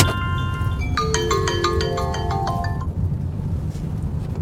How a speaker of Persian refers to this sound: پارسا تو ماشینه، موبایلش زنگ میزنه.